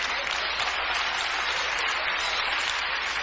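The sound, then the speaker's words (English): A crowd claps steadily throughout, a dense, even wash of applause from many hands with no pauses or voices standing out above it. “Hold on, wait, don't clap yet. Clap here. I'm ready to say something that's worthy of a clap.”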